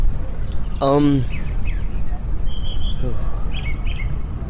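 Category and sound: bird, birds singing outdoors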